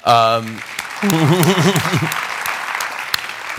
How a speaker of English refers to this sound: the applause is because you managed to escape briefly from there.